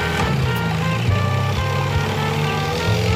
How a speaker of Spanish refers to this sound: Estos locos, ¿qué les pasa? Van a pasar la lancha por encima.